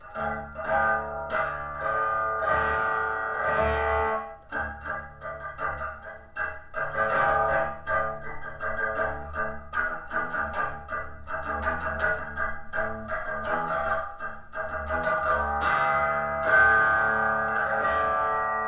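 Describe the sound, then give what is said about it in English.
A heavily distorted electric guitar plays through an amplifier set to tight distortion, with dense, buzzing harmonics, choppy strummed bursts and sustained notes, loud throughout with no voices. “Let's try one more setting. Let's try tight distortion.”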